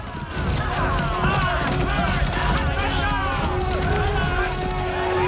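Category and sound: animal, horses galloping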